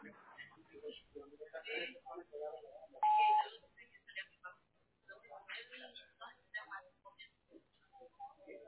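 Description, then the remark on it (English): A single short, steady electronic beep sounds loud and clear, the kind that marks the start of a voicemail recording, with people speaking before and after it. “Leave me a brief at the beep.”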